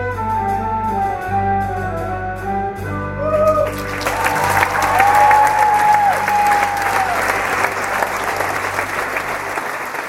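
A sustained musical chord fades out as a theater audience at «La Cage aux Folles» in the Bernhard-Theater in Zürich bursts into loud, dense applause that keeps going steadily, with a few high-pitched whoops rising above the clapping.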